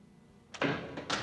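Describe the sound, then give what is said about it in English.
A heavy prison cell door is opened by a guard at sunrise: a sharp metallic clunk followed by a loud, grinding slide and a second clank, with no voices. “Frank's cell door is opened, letting in some light.”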